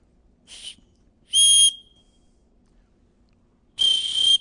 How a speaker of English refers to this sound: I brought a whistle with me in here. Let me see if I can blow this thing.